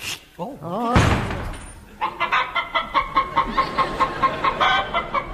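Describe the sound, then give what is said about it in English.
A man's voice crows like a rooster with a rising, wavering call, then breaks into a long run of quick, rhythmic clucking bursts, loud, after a brief thud. “It's turned him into a male chicken.”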